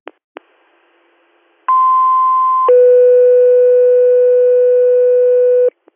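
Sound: dispatch paging tones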